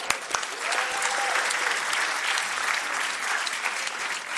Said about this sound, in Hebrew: או, מדהים! כפיים!